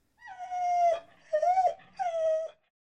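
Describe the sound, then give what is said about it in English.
A dog named Shindong whimpers in three drawn-out, high-pitched whines after a manservant kicks her back at a village mill where people grind rice, each whine sliding slightly in pitch with short gaps between, fairly loud and with no other sounds around them. “Annoyed by a bothersome mutt, a manservant kicked Shindong's back to push her away.”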